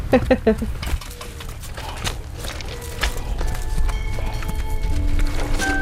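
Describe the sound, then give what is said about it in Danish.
Hooves of two horses clip-clop on the ground in an outdoor paddock, a few quick steps at first, then scattered thuds over steady background noise with faint voices. “Jeg står i en fold og kigger på to heste”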